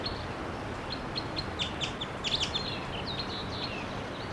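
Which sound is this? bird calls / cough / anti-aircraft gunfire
bird calls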